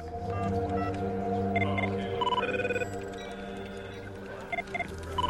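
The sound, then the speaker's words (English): A telephone rings in short, repeated electronic bursts as a call is placed, over a steady, low droning hum that runs throughout; no one speaks. “Chloe has an idea and decides to phone Edgar.”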